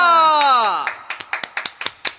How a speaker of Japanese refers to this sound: いや、自分で拍手してるな。